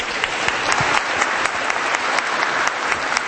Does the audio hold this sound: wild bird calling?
no